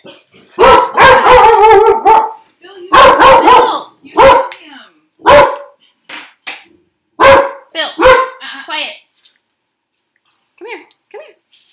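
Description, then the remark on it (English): A dog barks loudly as someone comes to the door, starting with drawn-out, whining barks and then a string of sharp, irregular barks with short pauses, trailing off into a few faint yips. “Someone just came to the door and my dog started barking.”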